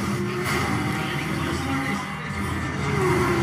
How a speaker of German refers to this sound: Ja. Zwei Autos in einem Rennen.